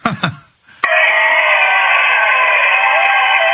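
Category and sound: crowd, audience applause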